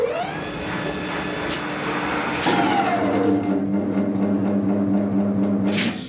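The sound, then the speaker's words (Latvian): An elevator's electric motor whirs steadily a few centimetres from the recordist's hand, with layered humming tones that shift in pitch partway through, and occasional sharp clicks of relays snapping in a relay cabinet. No one speaks. “Relēja jauki klikšķ un demonstrē brīnumsvecītēm līdzīgas dirkstas. Motors griežas vien dažas centimetrus no manas rokas.”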